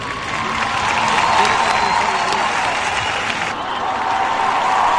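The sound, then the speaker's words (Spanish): A large concert audience in Gijón applauds steadily for several seconds, a dense, continuous wash of clapping with crowd noise mixed in, loud and sustained without a break. “Un aplausos del público en Gijón”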